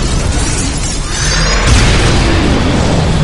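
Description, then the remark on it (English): A loud crash of a glass dome bursting apart, a dense roar of shattering debris and low booming rumble that swells midway and keeps raging without letting up. “The Alpha burst through the dome in a storm of shattered glassine.”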